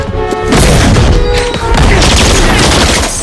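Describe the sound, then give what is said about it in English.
A dense, loud barrage of overlapping gunshots with sharp bangs and crashes, firing back and forth continuously for a few seconds with little pause, as a woman returns a man's fire in an apartment and a table is kicked across. “She returns the other's fire and rolls back into the other apartment.”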